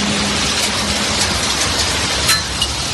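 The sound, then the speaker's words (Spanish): A steady, dense roar of heavy rain pours down continuously, with sharper taps of hailstones up to 2 centimetres across striking a surface, during an afternoon storm in Madrid. No voices are present. “Con lluvia, en forma, los cuchas de granizo, con bolas de hasta 2 centímetros que han sorprendido esta pasada tarde a muchos vecinos de la capital”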